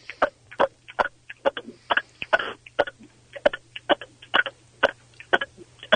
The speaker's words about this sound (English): What the hell is going on? Those just sound like short little burps. They are short little burps, but then one big one will come out at the end, but they'll just keep on going, little ones, over and over, and I can keep just doing it.